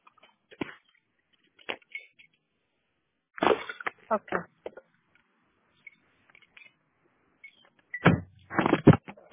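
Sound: getting into a car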